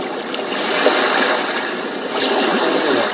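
A sound-effect recording played from an app: a steady, full rush of ocean waves washing continuously, with a gentle swell partway through; a dense, hissing wash of water with no voices.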